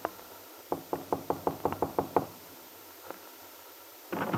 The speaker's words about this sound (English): He had telephoned Lisa to arrange a meeting in her room at the hotel. And now Paul stands before her door, waiting for an answer to his knock.